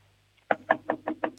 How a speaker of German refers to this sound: So, und jetzt gehst du zum Fenster und du klopfst mal mit der Hand so gegens Fenster. Also wie wenn du anklopfen würdest.